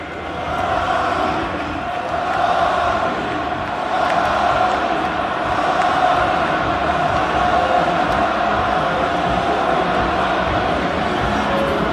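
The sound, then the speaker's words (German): A large stadium crowd at Camp Nou in Barcelona roars steadily for twelve seconds, applause mixed with a rhythmic chant of Xavi's name rising and falling through the dense, loud wash of voices, about five minutes before a match. “Ja, ihr hört es, auf Bestellung quasi skandiert das Camp Nou Xavis Namen.”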